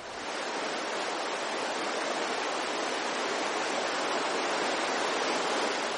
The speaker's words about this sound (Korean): 그렇다고 단순히 길기만 한 해안선이 아니다. 철썩이는 파도를 따라 아름다운 모래 백사장과 구불구불 여유로운 해변이 끝도 없이 펼쳐진다.